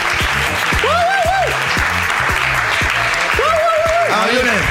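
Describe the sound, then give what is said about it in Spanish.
A crowd applauds loudly and steadily for several seconds, dense clapping throughout, with rising and falling whoops and shouted voices over the top. “Bueno, un aplauso”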